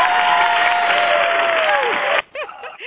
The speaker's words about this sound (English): Listen, can we give her a shout, give her an applause? 41 years.